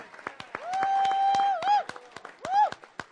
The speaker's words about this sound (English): Let's give a huge Woo-hoo. Applause for all of our volunteers.